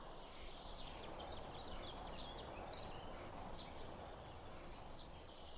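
bird, birds chirping outdoors

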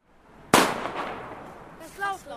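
impact, firecrackers exploding

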